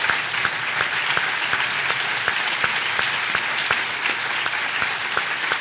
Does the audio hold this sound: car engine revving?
no